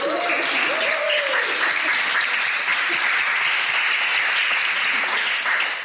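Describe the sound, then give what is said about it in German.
An audience at the Debattierhaus Karl der Große in Zürich breaks into sustained, loud applause for itself, dense clapping holding steady for several seconds, with a few faint voices and a brief cheer rising early on before it tapers at the end. “Ein Applaus für euch, dass wir das so gut gemanagt haben.”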